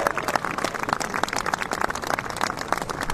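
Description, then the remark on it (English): A golf crowd applauding steadily, dense overlapping claps with scattered cheers and murmurs, sustained at an even loudness for a few seconds without any single voice standing out, as John O'Hare attempts a putt of about 30 feet on the ninth green, a par 3. “Let's listen to the crowd.”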